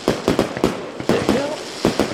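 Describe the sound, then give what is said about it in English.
A rapid string of sharp fireworks bangs, about seven crackling bursts in quick, uneven succession, loud, with a brief whistling tone rising between the blasts. “It's fireworks for the new idea.”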